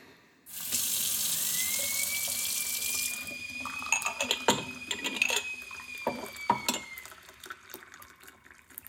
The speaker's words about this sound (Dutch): wil je een kop thee voor ons inschenken?